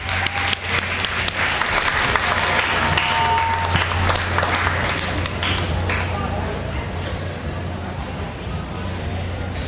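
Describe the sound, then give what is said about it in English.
Sustained audience applause fills the space, a dense crackle of many hands clapping that stays loud for several seconds before gradually thinning, with a low steady hum underneath. “Can we all give them a round of applause?”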